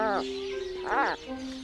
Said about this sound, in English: Let's listen. This is an Atlantic puffin.